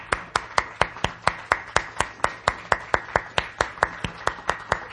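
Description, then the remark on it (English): Steady, rhythmic clapping in even time, roughly four sharp claps per second, fairly loud throughout, with no voices: a round of applause for three special guests. “A big round of applause for our three special guests.”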